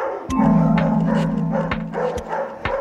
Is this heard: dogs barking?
yes